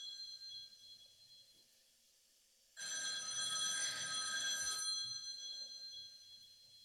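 telephone bell ringing

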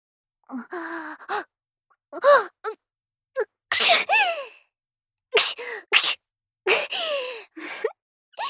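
sneeze

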